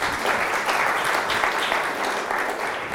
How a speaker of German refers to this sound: Du kannst erstmal wieder, ihr könnt doch mal einen kleinen Applaus.